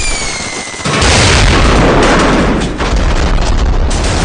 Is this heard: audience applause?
no